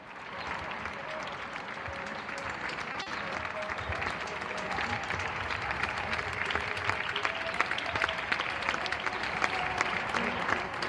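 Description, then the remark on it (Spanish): Sustained, emotional applause from a neighbourhood crowd in San Chinarro, echoing around, with dense clapping that swells slightly over eleven seconds and a few faint voices and whistles mixed in. “Aplausos emocionados también en San Chinarro”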